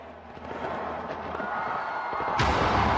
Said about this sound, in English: That was the sound in Sydney, one of the first places that marked the dawn of 2016. Australians enjoyed one of their biggest fireworks displays ever.